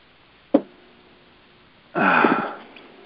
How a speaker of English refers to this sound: Forgive me on this cough here. Something is wanting out.